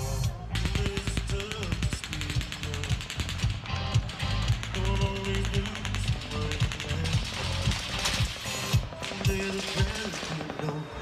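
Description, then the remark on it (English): Rapid automatic gunfire rattles out in long, fast strings of sharp cracks, pausing briefly between bursts, loud and sustained over a dense wash of background noise. “Machine gun fire, possibly from an automatic weapon, erupting into a crowd of thousands of fans.”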